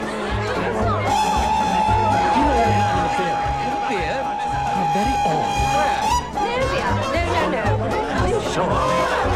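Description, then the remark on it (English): Loud, dense party chatter fills a hall decorated with towering floral arrangements, many voices overlapping into a steady hubbub with bits of laughter, while a sustained high tone hangs over the crowd for several seconds midway. “Nina pulls Adam through the crowd to find Agatha and Miles.”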